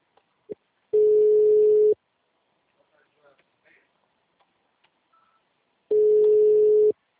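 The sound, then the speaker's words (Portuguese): A phone ringtone sounds twice, each ring a steady, buzzy low tone lasting about a second, separated by a long pause with only faint clicks and rustles between. “Nossa, coloca um toquinho melhor no Alô? meu telefone.”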